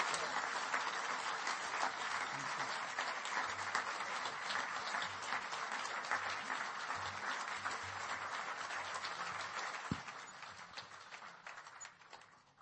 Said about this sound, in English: Let's give the Lord a great clap offering as we bring the service to a close.